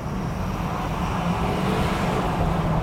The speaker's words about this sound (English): Don't go too fast, because this is like 10,000 pounds of truck. All right. I'm accelerating.